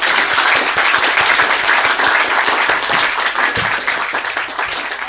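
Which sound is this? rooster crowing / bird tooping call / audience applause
audience applause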